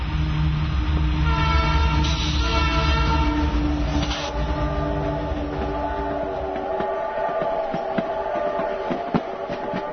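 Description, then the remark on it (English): A steam train rumbles steadily along the railroad tracks, a sustained whistle sounding over the clatter before fading into rhythmic mechanical chuffing and clanking. No one speaks. “In 1886, the Canadian Pacific Railroad reached British Columbia and the Kicking Horse Valley.”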